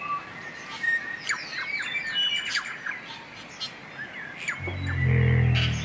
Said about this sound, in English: They would have paddled through towering forests of Rimu, Totara and Kauri, filled with the deafening calls of thousands upon thousands of birds.